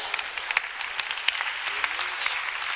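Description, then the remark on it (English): An audience listening to a sermon claps steadily, a dense crackle of many hands with a few sharper claps standing out, growing gradually lower, and no voices over it. “Did y'all notice how the claps are getting lower and lower and lower?”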